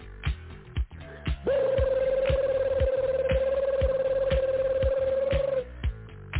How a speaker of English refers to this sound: Let him call my damn phone again.